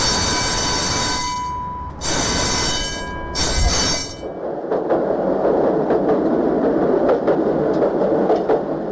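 A tram rolls past, its wheels shrieking in long high squeals against the rails for several seconds, then fading into a steady rumble with rhythmic clattering over the track.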